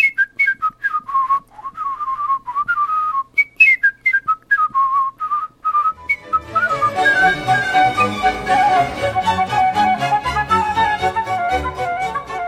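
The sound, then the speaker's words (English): A solo whistler races through the last movement of Johann Sebastian Bach's Suite No. 2 in B minor in quick, bright, staccato notes, then a full instrumental ensemble bursts in halfway and carries the tune on loudly. “It's from the last movement of Johann Sebastian Bach's Suite Number 2 in B minor, and I really loved his rendition.”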